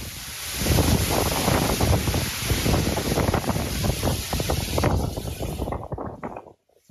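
A loud, steady roar of hurricane wind mixed with heavy rain in Florida, surging in gusts for several seconds before dropping away abruptly near the end. No voices are heard.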